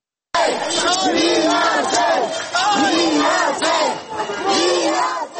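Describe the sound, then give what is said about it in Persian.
A large protest crowd in the streets of Yerevan, Armenia, at a demonstration led by opposition MP Nikol Pashinyan, chants loudly in unison, voices rising and falling in repeated rhythmic shouts that fill the whole clip without pause. “نیکول پیشینیان عضو پارلمان ارمنستان که یک چهره اپوزیسیون است رهبری این تظاهرات را به دوش دارد.”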